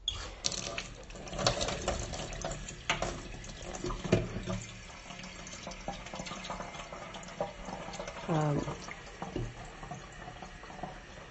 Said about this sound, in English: I'm just going to make a gushing sound. I'm filling my kettle because I'm going to have a cup of tea in a minute, a pot of tea.